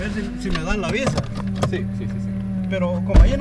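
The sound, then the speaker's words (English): Inside a car leaving a coffee farm in El Salvador after an interview, a steady low engine hum, brief voices and rustling movement, then a single solid thump near the end like a car door shutting. “We wind up our interview and hop back in the car.”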